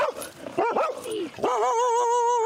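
A dog on a beach vocalizes: a few short, sharp yips and barks, then a long, wavering, high-pitched whine that holds steady to the end, with no one talking.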